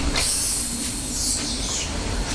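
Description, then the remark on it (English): A child's voice imitates squealing bike brakes with a steady, loud, high hissing screech that holds for about two seconds, a faint hum underneath. “Is that what you imagine the brakes sound like?”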